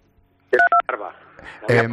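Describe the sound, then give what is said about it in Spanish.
Two quick electronic beeps from a phone keypad, its buttons touched by a face or fingers during a phone call, clear, followed by a voice speaking over background noise. “cuidado con al hablar, porque estamos tocando, creo que con la cara o con los dedos, algún botoncillo del teléfono y suena un pitido de vez en cuando.”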